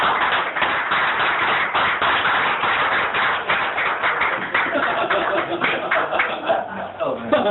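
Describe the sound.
A steady round of applause from a crowd welcoming a speaker invited up to give a 10-minute talk, dense and fairly loud, with many overlapping claps running for several seconds and a faint murmur of voices underneath.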